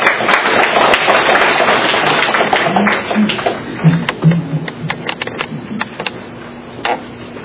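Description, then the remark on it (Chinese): A church audience applauds to welcome the preacher, with dense, steady clapping that gradually thins into scattered individual claps, with faint murmuring and low voices underneath toward the end. “我们用掌声来欢迎主讲道。”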